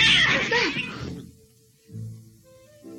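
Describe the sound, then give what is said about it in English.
Cats meow loudly: a harsh, screeching yowl fills the first second, then two shorter, tonal meows follow after a brief pause, with no one talking. “Stop! Not those cats.”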